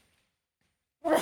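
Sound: sneeze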